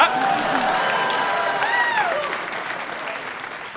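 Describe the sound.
A crowd applauds steadily, dense, loud clapping, with a few whoops and cheering voices riding over it before it gradually thins out.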